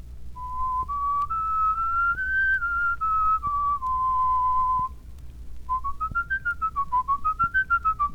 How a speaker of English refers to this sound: You'll notice that this is just a plain whistle.